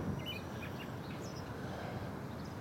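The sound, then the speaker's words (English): Scattered, faint morning bird chirps and tweets float above a steady, dense rumble of city traffic and urban hum in Millennium Park, Chicago, by the Cloud Gate sculpture. There is no talking, and the background noise stays constant throughout. “Morning bird songs.”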